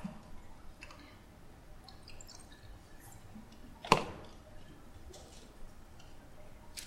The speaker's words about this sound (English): So, it's my deionized water. I'm just going to use that one to rinse it off. Okay. Some water.